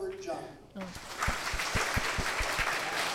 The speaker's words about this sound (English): So CMEA got more applause than SSBOA.